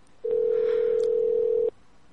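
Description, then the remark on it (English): A single steady electronic beep holds one mid pitch for about a second and a half, loud and clean, starting and stopping abruptly like a voicemail recording tone. “Leave a message. I'll call you back. At the tone.”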